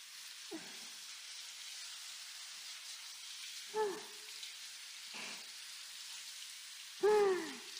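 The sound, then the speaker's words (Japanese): A shower sprays hot water over a person's hair to wet it, in a steady, even hiss that runs throughout, broken by four short, low, hooting tones at irregular intervals. “全体的にしっとりしてきましたね。シャワーはこれくらいにしましょう。”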